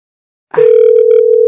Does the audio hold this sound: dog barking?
no